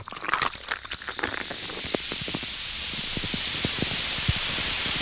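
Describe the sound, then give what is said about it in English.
A cocktail drink fizzes with a steady bright hiss, dotted with countless tiny crackling pops; a burst of sharper crackles at the start settles into an even, continuous fizz. “Oh, so fizzy. So fizzy.”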